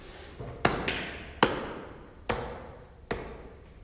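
Slow footsteps approaching in the Wiener Konzerthaus: four heavy, evenly spaced thuds about a second apart, each ringing out briefly, with fainter scuffs between them and no voices.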